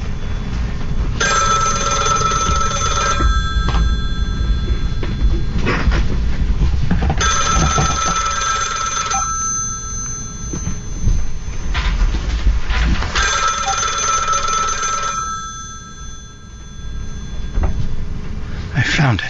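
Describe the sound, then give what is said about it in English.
A telephone bell rings loudly in three separate bursts, each about two seconds long and spaced evenly apart, with a steady low rumble of background noise underneath throughout. “Where's the phone?”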